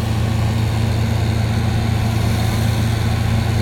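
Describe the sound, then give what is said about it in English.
A loud, steady motor drone from a power tool used for cutting branches, running continuously at an even pitch with a low rumbling hum and no voices. “Plus, we got someone trimming or cutting down branches.”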